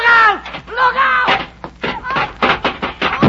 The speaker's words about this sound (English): Look out! Oh, he fell down! You knocked him off the ladder!